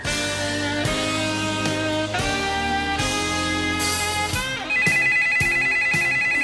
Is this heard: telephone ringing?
yes